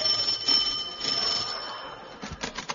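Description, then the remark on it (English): A bright bell rings with a sustained, shimmering metallic tone that slowly fades, followed by a few short clattering knocks near the end. “By the side was a bell.”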